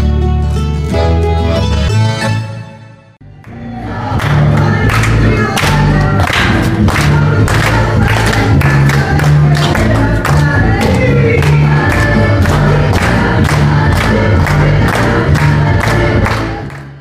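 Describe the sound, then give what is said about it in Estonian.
A concert audience at a belly dance performance in a day centre in Kuressaare, with loud, rhythmic music and sharp percussive beats like hands clapping along. It briefly drops away near the start, then surges back and stays full. “Eelmisel nädalal nautis publik meeleolukat kontserti Kuressaare päevakeskuses.”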